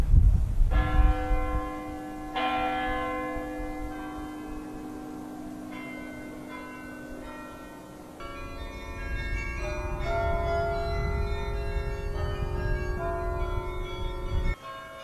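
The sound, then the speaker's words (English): Church bells from three churches in Amsterdam, which ring every 30 minutes, ring out in overlapping peals, long resonant tones sustaining and blending with fresh strikes every few seconds, fairly loud with a hum of ambience beneath and no talking. “Here, I have 3 churches ringing their bells every 30 minutes.”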